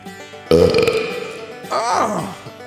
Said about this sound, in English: So, with that, taste my wet belch, Rolling Stone Country!